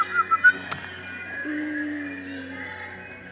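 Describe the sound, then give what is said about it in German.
Several children on a stage whistle at once with their mouths, thin wavering tones that overlap and hold steadily, fairly faint, after a few short breathy puffs at the start. “Könnt ihr pfeifen? Pfeift mal.”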